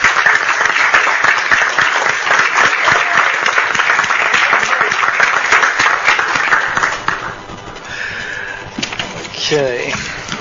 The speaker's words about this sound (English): And I consider our Marine Patrol peace officers, and I like to thank them for their service, what they do for all of us. And let's give them a good round of applause.